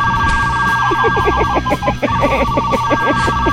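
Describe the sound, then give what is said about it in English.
A novelty phone ringtone plays loudly, a jumble of repeating tonal chirps over a thick, buzzing low rumble like a fart sound, continuing without pause and with no talking. “Was that the fart phone? That was the fart phone.”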